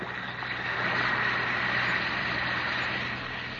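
A steady, dense fizzing hiss with fine crackling bubbles as one or two Alka-Seltzer tablets dissolve in a glass of water, holding at an even loudness for several seconds with a faint low hum underneath.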